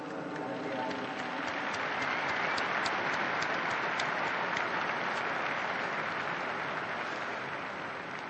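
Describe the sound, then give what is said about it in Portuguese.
A large crowd applauds steadily for about eight seconds for the newly beatified, a dense, even wash of clapping that holds at a constant level and tapers off slightly at the end. “Uma salva de palmas para os novos bem-aventurados.”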